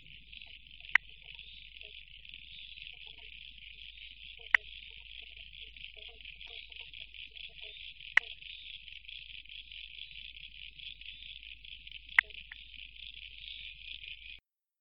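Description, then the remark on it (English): Sharp, single clicks from a spotted marsh frog ring out about every three to four seconds over a dense, steady high-pitched chorus of other frogs, with no voices present. “Now, you might have heard in that recording, amongst other frogs, you could probably hear that clicking sound, click, click. And that's the sound of the spotted marsh frog.”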